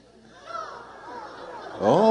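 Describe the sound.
A person imitates a crow's caw with a loud, harsh, nasal squawk near the end, preceded by quieter murmured vocal sounds in the background.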